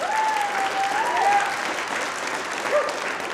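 An audience applauds steadily for a band after its performance on the Red Barn Radio show, a dense, sustained wash of clapping that stays loud throughout, with a faint whistle riding over it near the start.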